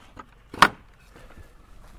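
A single sharp clunk as the door of a stopped truck is opened to open gates on a bumpy road in a valley where horses roam, brief, followed by a quiet, low outdoor background with no talking.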